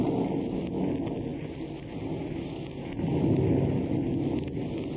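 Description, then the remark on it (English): Steady, dense rain noise of a night rainstorm at a house in Malibu fills the scene, with a low rolling rumble of thunder swelling midway. No voices, just the constant wash of the storm. “The night is rainy and accompanied by thunder and lightning.”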